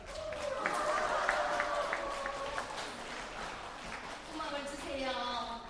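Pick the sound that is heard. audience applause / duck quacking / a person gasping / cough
audience applause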